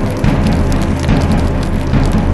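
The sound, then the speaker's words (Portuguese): A steady, dense crackle of fire burning through dry brush of the Brazilian Cerrado at night, spreading quickly through dry vegetation and farm pasture, with a low roar beneath it and sharp pops scattered throughout, fairly loud with no voices. “Cerrado em chamas no meio da noite.”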